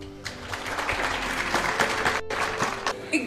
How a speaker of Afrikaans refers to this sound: Gooi se hande klap.